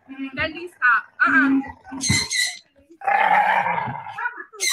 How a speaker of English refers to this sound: So for those of you who are just listening, this is a video of an adorable, an absolutely adorable doggy, an English bulldog named Fendi.